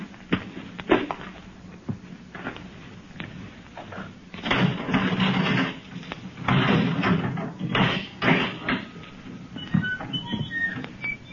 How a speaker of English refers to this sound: Open the door!